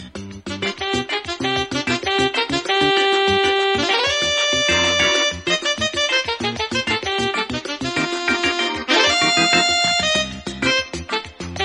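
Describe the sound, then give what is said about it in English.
A bright, upbeat instrumental music sting plays loudly and steadily on its own, with punchy rhythmic hits and sustained melodic chords. It sounds like a commercial-break bumper, with no voices. “We should be hearing music. There it is, and we'll be back with more news.”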